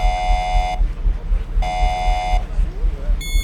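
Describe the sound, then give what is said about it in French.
A strident electronic space station emergency alarm blares in two long pulses with a pause between, its harsh harmonic tone loud over a low rumbling background, then a third burst begins at the end. “Bon, il y a le bruit de l'alarme qui est un bruit assez strident, puisque ce bruit doit pouvoir vous réveiller en pleine nuit pour permettre à tout l'équipage de se préparer au retour.”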